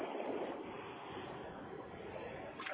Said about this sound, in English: I'm actually out on the water right now. I'm on one of my canoes. So it's a little loud.